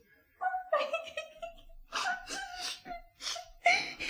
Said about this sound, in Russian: Принцесса, не плачьте, принцесса.